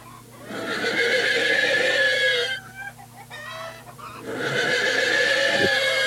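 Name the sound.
stallion neighing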